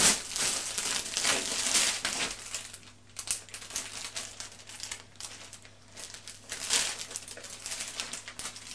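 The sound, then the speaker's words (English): Gift wrap paper crinkles and rustles in irregular bursts as a child wraps his mother up in it, loudest at the start and again in flurries later, with a faint steady hum underneath and no talking. “You're wrapping Mummy up in gift wrap.”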